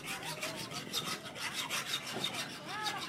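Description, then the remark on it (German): Steady, rhythmic abrasive scraping as a woman in the village of Kofesso Biola Bugon scours pots with sandpaper, harsh and raspy with repeated back-and-forth strokes and faint metallic ringing, continuous and fairly loud with no talking. “Eine Frau scheuert Töpfe mit Schleifpapier”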